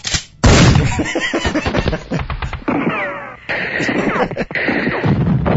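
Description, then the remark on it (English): Loud bursts of gunfire from a single gun play back from a video, a rapid string of sharp cracks and booms with a dense, crackling texture and a few brief gaps. “Play the guns. Play the guns. Well, play the sound of the video. Well, that's just one gun, man.”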